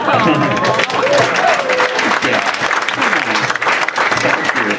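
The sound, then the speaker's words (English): An audience bursts into sustained applause, loud and dense throughout, with scattered cheers and chatter mixed into the steady clapping. “Clapping poetry.”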